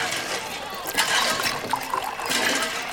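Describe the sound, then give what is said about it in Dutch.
Water gushes and splashes steadily from a hand pump as its handle is moved up and down to fill two buckets, rising in surges as though with each stroke of the handle, fairly loud with no talking. “Als je die op en neer beweegt, komt er water uit.”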